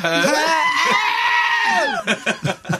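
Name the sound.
goat bleating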